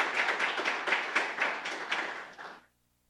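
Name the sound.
applause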